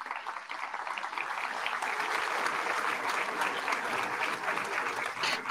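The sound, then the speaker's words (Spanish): An audience claps steadily throughout to welcome Governor Carlos Manuel Merino, a dense, even wash of many hands with no voices on top, holding at a consistent loudness for several seconds. “Un aplauso.”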